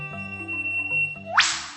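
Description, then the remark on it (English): An eastern whipbird's whip-crack call: a quick upward sweep ending in a single loud, sharp crack, heard over steady, sustained low tones. “The eastern whipbird hangs out in the dense understory.”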